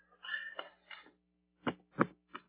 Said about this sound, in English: What I'm chopping off here is what's called the brace roots.